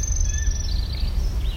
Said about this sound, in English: Anything that sounds like hip, hip, hooray, boys, I assume it's a song sparrow unless it's something else. It's a good rule of thumb.